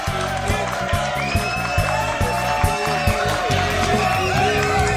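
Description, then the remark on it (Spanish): A concert crowd at a recital in the Sala Capitol on Tuesday 14 April claps and cheers steadily for five seconds, a loud, dense wash of applause with scattered whoops and shouts and no clear break. “Un aplauso impresionante, ¿eh?”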